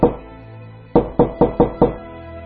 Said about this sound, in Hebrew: השעה הייתה 2 לאחר חצות הלילה. בביתו של רב זלמן מירלש, רבה של המבורג, כל בני הבית נמו את שנתם, כשלפתע נשמעו דפיקות עזות בדלת.